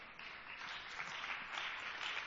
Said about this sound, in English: Come on. I know about half of you are clapping here.